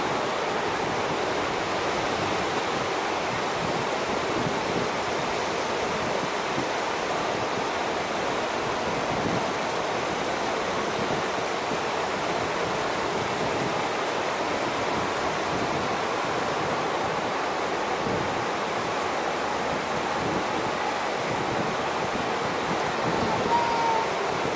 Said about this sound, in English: Waves are breaking better over there than there. You can't see it from there.